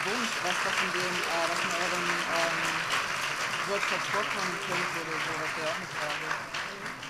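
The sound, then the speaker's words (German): An audience applauds steadily for several seconds for three presenters, a dense wash of clapping with voices and cheers mixed underneath, holding loud throughout before easing slightly at the end. “Ja, erstmal vielen Dank und einen großen artigen Applaus für unsere drei.”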